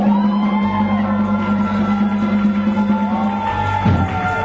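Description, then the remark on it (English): An audience shouts and cheers together in praise to God in a loud, unbroken swell of overlapping voices, with a steady sustained musical tone droning underneath throughout. “Now, shout unto God with a voice of triumph, folks.”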